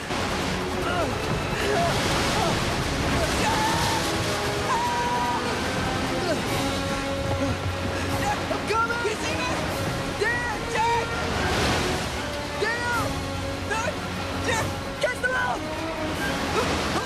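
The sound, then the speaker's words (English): A continuous, loud roar of rushing water and crashing waves fills the whole stretch, surging in intensity, with shifting tonal sounds layered over the wash, as a boat rolls over and three men are carried along by the water. “They're carried along by the rushing waters.”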